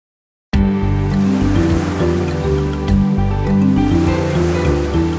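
Ocean waves wash and crash steadily onto the shore, a loud, continuous rushing surf that begins abruptly after a brief silence and sounds like it carries a faint tonal layer beneath.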